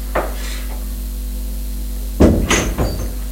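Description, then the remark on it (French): A door is opened: a faint click, a pause, then a louder clunk of the latch with a short rattle and a couple of knocks, over a steady low hum. “La porte n'est pas fermée.”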